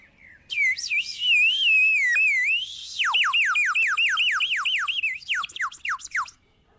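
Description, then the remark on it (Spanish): A water-filled clay bird whistle, used as a lure call for birds, is blown: a warbling, trilling tone first, then a quick run of about a dozen sharp descending chirps, loud and alone, with no talking. “Tengo un pájaro de barro para hacer de silbatito reclamo de esos pájaros.”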